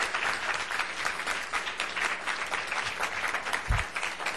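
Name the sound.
audience round of applause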